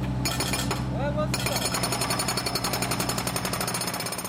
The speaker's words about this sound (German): Zurzeit gleicht die ganze Innenstadt einer einzigen Baustelle. Baumaschinen, Bagger, Lastwagen sind ununterbrochen damit beschäftigt, die Kanalisation zu erneuern und die Straßenführung zu verbessern.